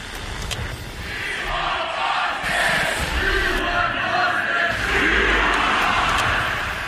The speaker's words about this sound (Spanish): Empieza con esto, con los gritos de We Want Boston, queremos a Boston